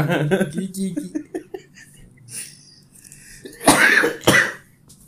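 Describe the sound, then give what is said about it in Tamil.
A person clears their throat with a low rumbling rasp, then after a pause lets out two harsh, loud coughs, the second shorter than the first. “இன்னும் இந்த இருமல் போய் தொலை எனக்கு அருமோ.”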